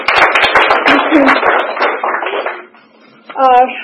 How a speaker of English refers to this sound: Yeah, clap for him.